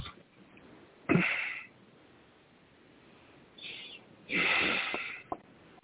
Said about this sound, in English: Excuse me, I have to clear my throat. Excuse me. Take a sip of this water.